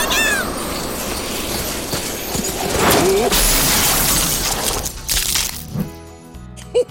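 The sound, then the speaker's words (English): Santa's reindeer-drawn sleigh crashing in fog and snow during a test run: a dense, loud rush of crunching and shattering that sustains for several seconds, with sharp cracks and clatter breaking through before it breaks apart into scattered debris at the end. “Yes, Santa, but the sleigh is smashed.”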